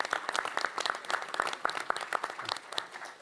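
An audience at a program applauds steadily for itself and the participating group, many overlapping hand claps forming a dense, crackling patter at an even, moderate level with no voices.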